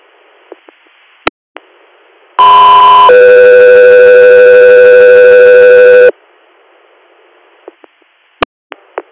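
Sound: radio dispatch alert tones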